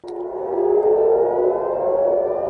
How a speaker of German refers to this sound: Am Nachmittag heulten wieder die Sirenen im Großraum Tel Aviv. Wieder flogen Raketen aus dem Iran auf Israel, während die israelische Luftwaffe Angriffe auf Teheran flog.